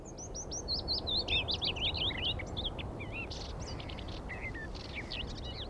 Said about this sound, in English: There's a couple of warblers to start us off. There are, yes. There's quite a near willow warbler, which has become probably a most common warbler in this part of Scotland. I think they're declining in the south, but they're really common here now.